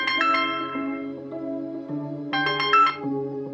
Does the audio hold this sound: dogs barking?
no